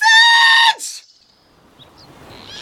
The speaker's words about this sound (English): I'm stuck in a tree with a woman screaming.